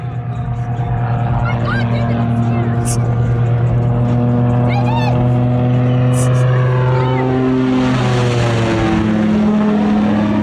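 A low-flying propeller plane drones loudly and steadily, its engine pitch sweeping downward as it flies directly towards a boat carrying a family with four kids and buzzes right over it, with the constant rumble of the boat engine underneath.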